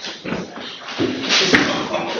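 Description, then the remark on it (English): Chairs bump and thud as people settle into their seats at a Central Tablelands Water council meeting, a few dull knocks at irregular moments over low murmur and shuffling, moderately loud. “Oh, those chairs.”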